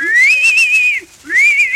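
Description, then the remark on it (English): A voice imitates a pony's whinny: two high, whistle-like squealing calls with a brief pause between them, fairly loud, with no talking. “And the little pony who whinnied.”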